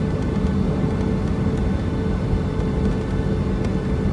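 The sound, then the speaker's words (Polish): A steady, loud low rumble fills the cabin of an airplane rolling at high speed down the runway after landing, a dense roar with no pauses and no voices. “Bo tak naprawdę, jak widzimy, samolot poruszy się z naprawdę dużą prędkością.”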